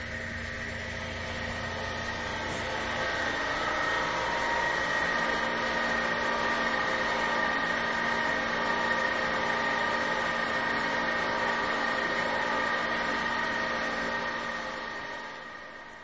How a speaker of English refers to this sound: It is in the Natobi Gardens at the University of British Columbia. As we move closer, you can hear the very audible whine of the generator pump used to get the water up into position to fall.